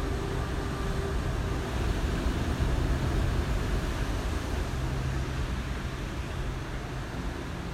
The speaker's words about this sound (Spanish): el sonido del océano de fondo, déjate llevar por ese ritmo y esa frecuencia que tiene el sonido de las olas cuando va golpeando hacia la costa.